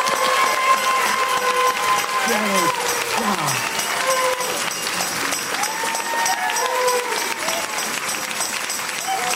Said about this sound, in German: Und am 7. Tag fingen sie an, laute Musik zu machen und laut zu jubeln und zu klatschen. Los!